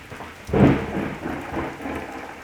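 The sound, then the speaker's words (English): A thunderstorm with heavy rain: a deep thunder rumble swells near the start and rolls on under a steady, hissing downpour that continues throughout. “I hope it's still there when this storm passes.”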